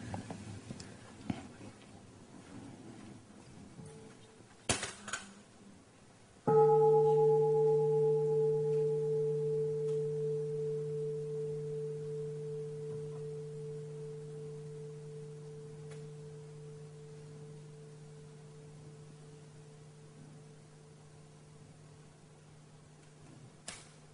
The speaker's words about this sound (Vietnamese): Thỉnh tiếng chuông để thở cho khỏe.